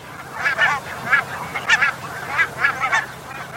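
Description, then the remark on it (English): A noisy flock of barnacle geese on their wintering grounds in the Netherlands honks continuously, many overlapping yapping calls rising and falling in rapid bursts, some loud, others softer. “This is a recording of the geese on their wintering grounds in the Netherlands.”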